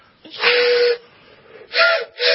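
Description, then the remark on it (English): A toy train whistle is blown in three loud, breathy bursts: a long blast, a pause, then two shorter toots close together, airy and hissing with a steady pitched tone. “Or no, that's a train whistle. It's a train whistle.”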